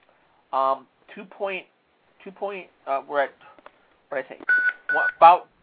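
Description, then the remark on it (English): Two short electronic beeps, like phone keypad tones, sound in quick succession near the end, mixed in with a voice chattering in short bursts. “Are you beeping at me?”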